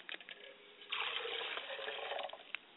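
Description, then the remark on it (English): Water is poured out as a libation to the east in a steady, splashing stream for about a second and a half, with a few soft drips before and after; no one speaks. “And as we pour the libation to the east and to the west, we pour libations to the east and we say Ashe.”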